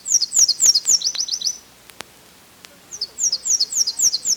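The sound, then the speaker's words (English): A Nashville warbler sings its two-part song twice, each song a run of high, sweet repeated notes that shifts into a quicker, lower trill, with a short quiet pause between songs, clear. “Nashvilles sing a two-part song, sabit, sabit, sabit, sweet, wheat, wheat, wheat, wheat.”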